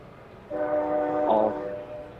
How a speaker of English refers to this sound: Are you on a train right now